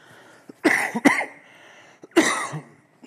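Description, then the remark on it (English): A person at a church pulpit coughs in two clear bursts, a double cough followed by a pause and then a single harsh cough, with short breaths between them and no talking. “It's like I can't, I can hardly get up here without coughing.”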